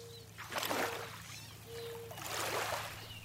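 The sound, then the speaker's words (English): Rushing water of the Housatonic River surges twice in broad, hissing swells, with a steady low hum running underneath and no voices present. “And moreover, every site's sound changes somewhat within a very short space of time. There's no pinning a river down.”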